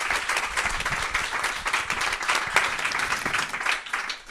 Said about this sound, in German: Es verdient einen Applaus.